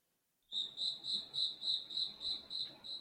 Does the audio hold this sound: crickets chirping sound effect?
yes